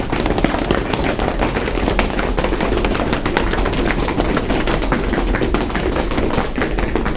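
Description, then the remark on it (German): Many feet stamp and trample rapidly on a hard floor in a school bench circle, a dense, continuous clatter of thuds and taps that stays loud and steady throughout, with no voices. “Und so klingt Trampeln.”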